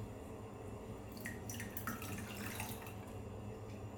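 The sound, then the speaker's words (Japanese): Lukewarm yellow urine, collected in a cup, being poured down a drain, a short splashing trickle with irregular drips that starts about a second in and continues over a low steady background hum. No voices. “ちょっとじゃあ流しますね。”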